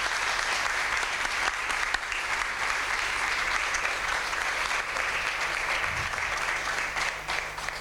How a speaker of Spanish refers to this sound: Son nuestras 9 candidatas al título de princesa infantil que se posicionan un poquito más juntas para que podamos sacar esa fotografía para el recuerdo y el aplauso grande para todas ellas.